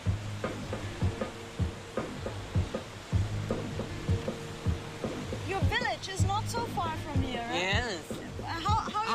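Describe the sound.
Steady rushing of a fast-flowing river in Luding, Sichuan Province, China, spanned by a wooden slatted footbridge, fills the scene with a constant hiss, while voices and brief chirpy sounds come and go over it, busier toward the end.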